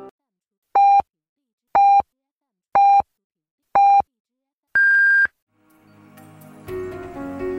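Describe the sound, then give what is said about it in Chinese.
A radio time signal marking 12 noon Beijing time on the Chongqing University of Posts and Telecommunications Sunshine Campus radio station: four short, evenly spaced beeps one second apart, then a longer, higher-pitched final tone, clear and loud. Soft music rises right after the last beep. “现在是北京时间正午12点整，您收听到的是重庆邮电大学阳光校园广播台。”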